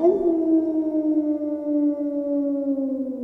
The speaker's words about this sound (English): What was that? It sounded like a wolf. I'm scared.